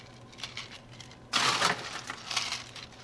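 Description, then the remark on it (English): Ice cubes clatter and rattle into a cocktail shaker holding gin muddled with cucumber, jalapeño and cilantro, starting with light scattered clinks, then a louder burst of tumbling cubes that settles into uneven rattling. Fairly loud, with no talking. “So I put that all in. I'm going to add some ice.”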